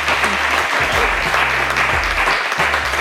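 A live audience at an event in a medicinal plant garden claps steadily, a dense, loud wash of applause that fills the whole moment without letting up, with no voices standing out above it.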